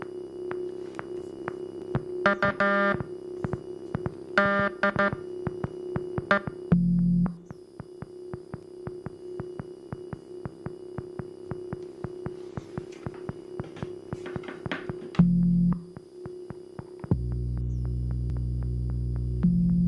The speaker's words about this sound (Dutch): Ich werde jetzt das Wort Freude morsen.